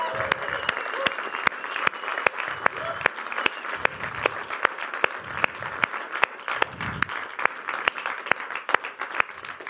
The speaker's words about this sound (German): Und lass uns doch mal eins machen, lass uns doch mal erstmal dem Geburtstagskind heute gratulieren und ihm einfach mal einen richtig großen Applaus geben.